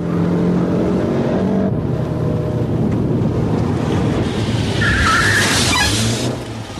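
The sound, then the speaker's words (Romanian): A car brakes to a stop, tires squealing briefly over a loud, steady roar of road and engine noise that drops off right at the end. “Nu vrei să oprești mașina?”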